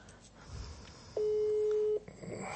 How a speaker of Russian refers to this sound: Набираю, что-то не набирается.